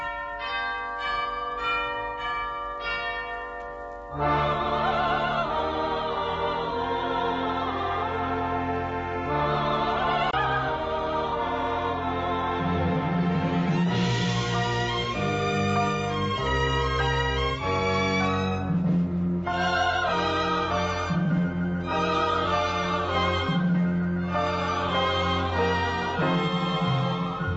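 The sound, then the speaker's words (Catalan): A Spanish-language Christmas song's recorded intro opens with a few seconds of bright chiming bells, then a full band swells in and plays on loudly and steadily with bell tones ringing through, no singing yet. “com que la música no té fronteres i és universal, … per la veu de …”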